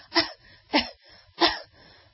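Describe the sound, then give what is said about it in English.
A voice imitates the way women cough: three small, restrained coughs, evenly spaced, each a short breathy burst with quiet pauses between them. “So when women cough, they do this.”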